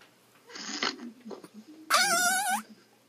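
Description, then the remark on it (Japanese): A voice imitates a fart in a game to make the most fart-like sound: first a brief breathy sputter, then a louder, strained, high-pitched buzzing tone that wavers for under a second and bends upward at the end. “じゃあ、一番おならっぽい音出せた人が勝ちゲーム。”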